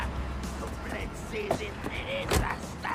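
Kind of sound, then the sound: vehicle, car door slamming shut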